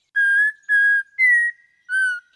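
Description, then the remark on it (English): An Audubon's oriole's whistled song: four clear, sustained whistled notes around the same mid-high pitch, each about a third of a second, delivered in a slow, halting rhythm with short pauses between. “The whistler behind this call bears the name of an even more famous student of American birds. It's Audubon's oriole.”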